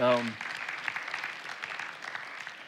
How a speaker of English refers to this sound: Would you take a moment just to give a clap offering to what God is doing there? So thank you.